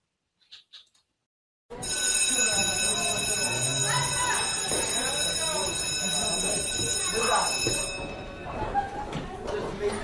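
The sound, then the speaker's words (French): A busy school playground: a steady din of many overlapping voices, with shouts and high calls rising above the chatter, plus a thin constant high-pitched whine throughout. “École, école, la cour d'école, etc.”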